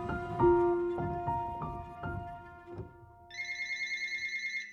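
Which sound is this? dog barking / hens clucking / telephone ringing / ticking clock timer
telephone ringing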